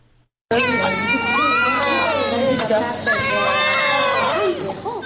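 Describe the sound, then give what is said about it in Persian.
Newborn conjoined twin babies, born on Thursday at the Nesai maternity hospital in Herat and weighing about 4500 grams, crying loudly and continuously after a brief silence, with overlapping high wailing voices that rise and fall. “گریه های دوگانگی به هم چسبیده، اینان اصل روز 5 شنبه در شفاخانه نسای ولادی هرات متولد شدند.”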